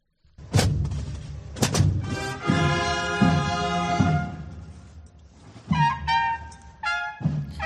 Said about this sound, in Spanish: Ello mientras sonaban estas cornetas de la cofradía que escuchas, recibidas por los aplausos de las cerca de 400 personas que se congregaban, paraguas en mano, en la plaza del mercado de Logroño y en sus alrededores, en esa céntrica calle Portales.